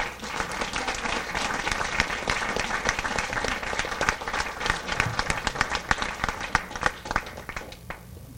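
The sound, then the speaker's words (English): A large audience applauds steadily for National Merit finalists, dense overlapping claps at a fairly loud level for about eight seconds before tapering off at the end. “All right, everybody, once more, please join me in recognizing and giving a huge round of applause to our National Merit finalists.”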